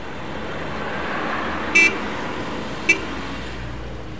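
A car horn honks twice over a steady rumble of road traffic, first a slightly longer toot, then a quick short beep about a second later.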